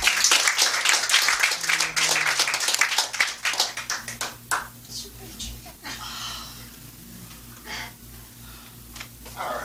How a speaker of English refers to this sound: So let's give her a big round of applause.